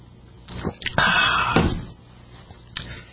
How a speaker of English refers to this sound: Have a sip of the coffee real quick.